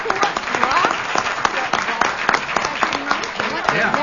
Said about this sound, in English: a big round of applause.